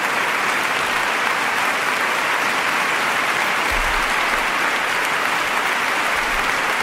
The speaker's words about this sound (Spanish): Bueno, para empezar, aplaudir antes de oír lo que vas a oír demuestra bastante insensatez. Mira cómo aplauden.